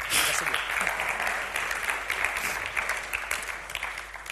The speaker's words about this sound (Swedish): Tycker ni ska ge Jesus en stor applåd.